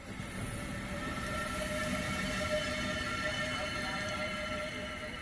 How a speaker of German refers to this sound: unser Zug setzt sich jetzt wieder in Bewegung